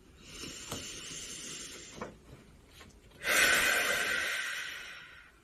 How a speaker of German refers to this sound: Nehmen wir mal einen tiefen Atemzug gemeinsam. Nimm mal deine Hand, deine linke Hand, intuitive Hand, auf dein Herz und atmen wir mal zusammen tief ein und aus.